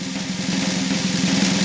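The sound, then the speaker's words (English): A steady, rapid drum roll rumbles continuously at an even loudness, the fast strokes blurring into one sustained rattle with no voices over it. “And drum roll.”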